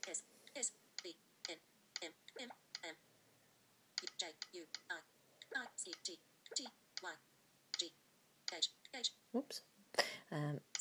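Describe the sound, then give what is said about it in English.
A run of keyboard typing in uneven bursts, each key press closely followed by a short clipped electronic voice, with a brief pause midway before the tapping resumes, as the author name Wilbur is typed into a book search on the RNIB. “So I've put in Wilbur.”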